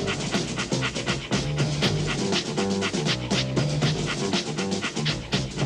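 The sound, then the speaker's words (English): Puppies bark and pant steadily throughout in the Pound Puppies, a dense, busy stretch of short yips and rapid breathy huffs that stays loud without letting up. “It's the Pound Puppies!”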